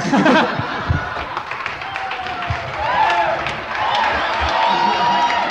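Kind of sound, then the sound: crowd, audience cheering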